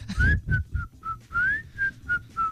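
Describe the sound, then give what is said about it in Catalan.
A person whistles a short tune of clear, sliding notes in a steady phrase, fairly loud, with low rumbling background noise underneath and no talking. “Sí, xiula, no?”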